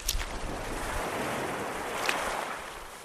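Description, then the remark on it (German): Ocean waves wash steadily and forcefully onto a beach on a sunny, warm day in a continuous hiss of surf, with a brief splashier surge near the start and another midway. No voices are heard. “Die Wellen spülen mit viel Schwung an den Strand.”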